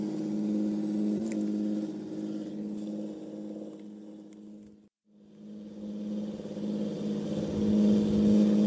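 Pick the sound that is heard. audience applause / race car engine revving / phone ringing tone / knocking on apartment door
race car engine revving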